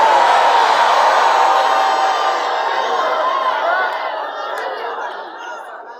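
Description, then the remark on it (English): An audience cheers and shouts together in response to a preacher's call to make some noise for Jesus's resurrection, a dense, sustained roar of many voices with whoops and scattered laughter, loud at first and gradually tapering off over six seconds. “Make some noise up in here.”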